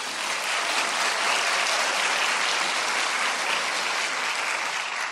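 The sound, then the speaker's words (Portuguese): Sustained applause from a crowd for all the women present, a dense, steady wash of many hands clapping at an even, fairly loud level throughout, with no voices standing out. “Cumprimentar a primeira-dama do Brasil, Janja Lula da Silva, e pedir uma salva de palmas a todas as mulheres aqui presentes.”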